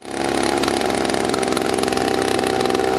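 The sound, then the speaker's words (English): A contractor sprays insecticide on coffee trees with a motorized sprayer on a small coffee block in the PNG Highlands, Papua New Guinea: a small engine roars in a loud, steady, buzzing drone that never pauses, with no voices. “Instead of the sound of coffee being harvested on this small block in the PNG Highlands, you can hear a contractor spraying insecticide on the trees.”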